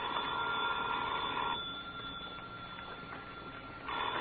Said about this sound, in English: That's your phone, Mr. Austin. Yeah, my phone.